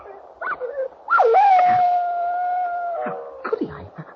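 A dog that has just been hit by a car lets out a loud, drawn-out howl lasting a couple of seconds, its pitch holding steady before falling away, with short whimpering yelps just before and after.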